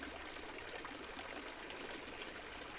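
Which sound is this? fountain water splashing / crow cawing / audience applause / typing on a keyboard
fountain water splashing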